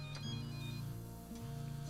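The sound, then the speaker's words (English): A mobile phone buzzes with a steady, low droning vibration, its pitch dipping and stepping back up twice, with faint clicks scattered through. No one speaks. “Buzzing is not me.”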